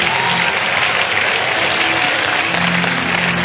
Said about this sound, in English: Clap your hands and celebrate along.